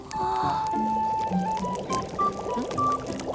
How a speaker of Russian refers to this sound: Хочу как ты горячую воду из рук лить. А, понял. Чтобы так делать, нужно совмещать воду с огнем.